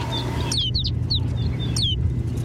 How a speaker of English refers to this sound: Now it's clear that rolling white cloud isn't snow at all, but a flock of snow buntings. These birds bring the barren landscape to life.